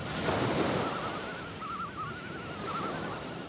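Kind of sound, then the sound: nature, ocean waves washing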